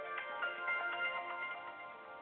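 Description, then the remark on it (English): A cell phone rings with a bright, melodic electronic tune, its notes pulsing steadily without a break at a fairly soft level. No one speaks over it. “Of course, my cell phone is ringing.”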